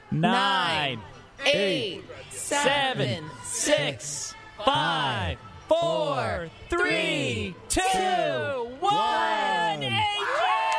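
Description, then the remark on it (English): A large crowd chants a countdown of the final seconds together, loud voices shouting each number from ten down to one in a steady rhythm, about one call per second, energetic with a murmuring hubbub between calls. “So let the crowd start counting down now.”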